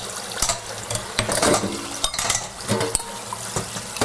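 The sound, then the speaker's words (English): Dishes clink and clatter as they are stacked and organized in a sink for later washing, several sharp knocks spaced irregularly over a steady wash of running water, with no talking. “I'm not gonna wash all of these. I'm just getting them sort of organized in the sink for later.”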